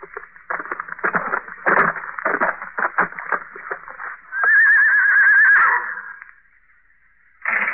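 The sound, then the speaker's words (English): A horse stopping outside whinnies loudly, a long wavering neigh following a stretch of snorting and hoof-like shuffling noises, then a brief pause before more sound resumes. “At 8, they heard a horse stop outside.”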